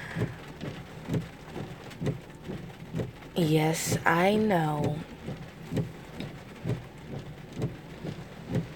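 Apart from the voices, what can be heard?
rain falling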